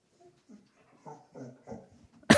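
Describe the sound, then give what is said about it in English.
A dog named Honey cries when petting stops, in a string of short, whiny whimpers, soft, ending with a sudden loud, sharp burst of noise. “I made the mistake of petting Honey, and now if I take my hand off her... She cries.”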